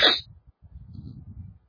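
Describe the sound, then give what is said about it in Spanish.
A single sharp sneeze bursts out at the very start, part of a renewed fit of sneezing, followed by a stretch of low, muffled rumbling and shuffling noise. “Bueno, yo estaba, no pude comenzar a leer, pero estaba escuchándole, porque me entró la estornudadera de nuevo, pastor.”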